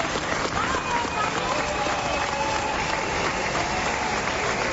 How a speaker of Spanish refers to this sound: Este sonido que vas a escuchar también pone los pelos de punta es el de la gente que de forma espontánea aplaudía a los bomberos que se desplazaban desde Canarias para ayudar en Valencia.